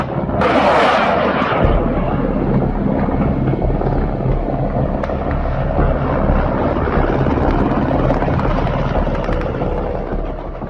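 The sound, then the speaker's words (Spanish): A loud, steady rotor roar fills the whole recording, with a thudding low-end drone and a brief whooshing burst near the start, as Russian Mi-17 HIP military helicopters carrying paratroopers, escorted by Kamov-52 helicopters, pass overhead. No one speaks. “Los paracaidistas rusos transportados por una fuerza de helicópteros Mi-17 HIP, escoltados por potentes Kamov-52 y apoyados por saboteadores operando en Kiev, trataron de tomar el aeródromo de Hostomel”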